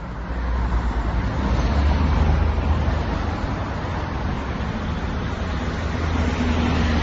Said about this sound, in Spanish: Y donde se escucha este rugir del tráfico, 70 vehículos, a lo dicho, hemos contado en 5 minutos, nos da una proyección de 420 a la hora, multiplicando por las 12 horas más o menos que hay de tráfico intenso en esa zona, más de 4.000 vehículos al día